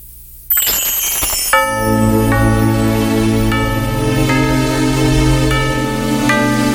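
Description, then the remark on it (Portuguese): A Christmas song opens with bright bells ringing in a steady, repeating pattern over warm sustained music and a low bass. It's loud, with no voices yet. “vamos à música e vamos ouvir o … com o tema …”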